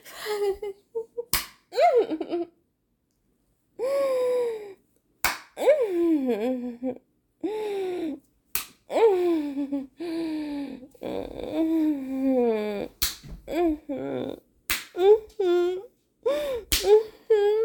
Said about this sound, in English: Should I slap my pussy too? It's so sensitive.